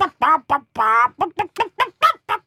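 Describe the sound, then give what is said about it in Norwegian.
A person imitates a hen, repeating what they said to the hens: a quick run of about ten clucking, squawky vocal bursts, fairly loud, with one longer drawn-out cluck near the start and no other talking. “Hva betyr det på hønespråket?”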